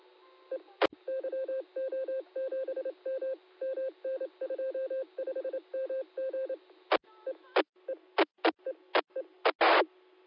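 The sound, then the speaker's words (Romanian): The room's landline phone, not a mobile, plays a rapid, steady series of mid-pitched beeping tones in short bursts. Several sharp clicks follow, ending with a brief burst of static-like noise, and no one speaks. “Ia uite ce frumos sună. Pe mobil? Nu, prietene, pe telefonul fix de la cameră.”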